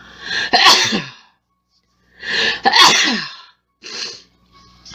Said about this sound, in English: And I gotta sneeze, hold on.